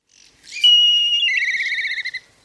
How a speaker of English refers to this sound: Its call is a descending whistle, followed by a staccato tsi tsi tsi tsi tsi, Let's have a listen to what a black kite sounds like.